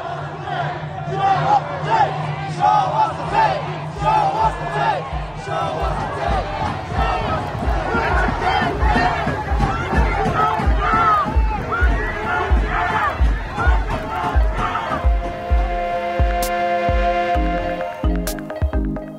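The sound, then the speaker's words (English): A crowd of hundreds of protesters marching to the Compton Sheriff's Station in Los Angeles chants loudly in unison, demanding justice for Andres Guardado, voices rising and falling over a steady rhythmic beat, with a sustained tonal sound joining near the end. “in Los Angeles on Sunday, a crowd of hundreds marched to the Compton Sheriff's Station to demand justice for Andres Guardado.”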